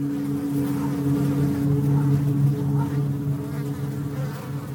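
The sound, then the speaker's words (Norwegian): A dense, continuous buzzing of many flies swarming around a place with a stench of corpses, a steady droning hum with wavering pitch that fills the whole stretch without pause. No voices. “Og fluene svermet rundt, det var lite trivelig sted.”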